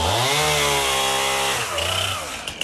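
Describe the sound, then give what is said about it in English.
A chainsaw runs loud, its engine droning steadily, then dipping and revving back up near the end with a few small clatters. “Within a few hours, bearded, burly men armed with chainsaws came to the aid of widows and the elderly in their distress.”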